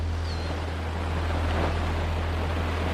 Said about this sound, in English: To put water on a water wheel. Got it. So the water's going to rush into the chamber where we just were.